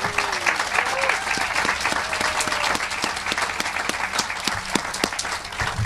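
A crowd at a Feed More celebration claps steadily for the staff in a dense, sustained round of applause lasting several seconds, with sharp individual claps standing out from the continuous wash of hand noise.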